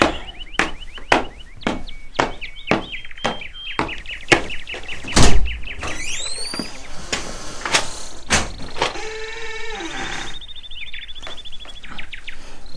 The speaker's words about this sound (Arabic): سأفتح الباب، بالتأكيد هو الصديق الذي سأسافر معه، طلبت منه أن يمر علي.